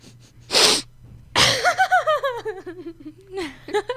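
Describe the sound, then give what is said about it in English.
A loud, sharp nasal sniff, then a second forceful burst that breaks into a quick run of rhythmic, high, descending giggles trailing off, with no words spoken. “That was a loud sniff.”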